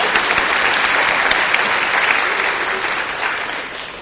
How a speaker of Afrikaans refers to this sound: Nou sal vir julle maar 'n lekker hande klap gee, nee.